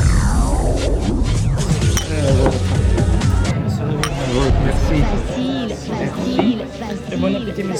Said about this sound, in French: Ah, il faut, là, on s'interrompt pour trinquer. À tout de suite.